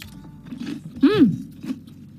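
Crunchy chewing of a crisp, freshly baked madeleine being tasted: a few soft bites and crunches, with a brief voiced hum rising and falling in the middle.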